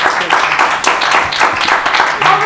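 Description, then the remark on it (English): A group of people clapping steadily, a dense, loud patter of many hands that carries on without pause for the whole stretch, with faint voices mixed in underneath. “So now look, I heard them clapping over there.”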